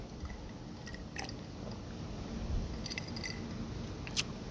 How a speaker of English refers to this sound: Let me take a quick sip of my coconut water as I record this podcast.